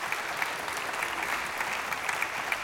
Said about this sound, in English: If you want to pause there a moment and applaud as a sign of worship and thanks to the Lord, I think it would be appropriate.